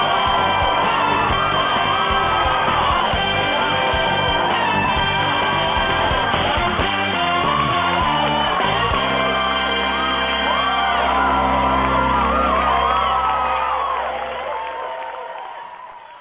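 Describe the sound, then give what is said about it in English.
The studio audience of Family Feud cheers and whoops loudly and continuously as the show starts and the host is introduced, with shouts and yells rising over a dense crowd roar and some music underneath, before the noise tapers off near the end. “Thank you. Don't applaud.”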